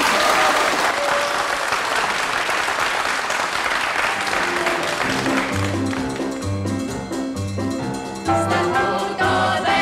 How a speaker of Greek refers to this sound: Και όποιος έχει φιλότιμο, να μας χειροκροτήσει.